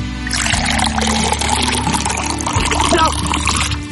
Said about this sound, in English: Here we go. Commence the pour.